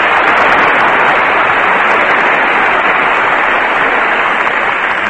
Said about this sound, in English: All right, there are so many in the orchestra, I guess by the time you divide that applause up, it'll run into fractions.